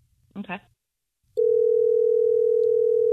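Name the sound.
telephone dial tone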